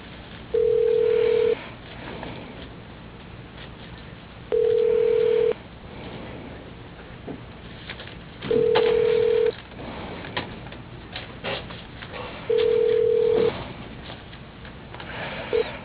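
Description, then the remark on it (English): A telephone ringback tone over a phone line while a call is being transferred to an electric company employee's extension: four steady, mid-pitched one-second rings spaced about four seconds apart, with faint line hiss between them and a fifth ring starting at the end. “Thank you for transferring to Mike McGrew. One moment, please.”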